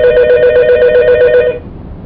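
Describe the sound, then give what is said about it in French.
A telephone rings with a rapid trilling electronic warble, loud, for about a second and a half before cutting off into a low background hum. “Alors on parlait des raves, quand le téléphone a sonné, tu es en train de m'expliquer ce que c'est.”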